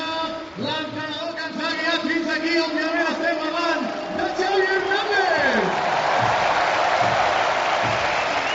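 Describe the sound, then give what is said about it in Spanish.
In a Barça stadium, a large crowd chants in rhythmic, sung tones while a man talks over it, then breaks into loud, sustained applause and cheering for Busi, with Barça coach Xavi Hernández applauding him, filling the last few seconds. “Busi, Busi, Busi, le aplaude Xavi.”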